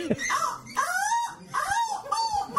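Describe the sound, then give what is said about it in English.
A voice imitates a crow: four drawn-out, nasal caws in a steady rhythm, each rising then falling in pitch, moderately loud with a slightly whiny, strained tone. “That's not a... The crow.”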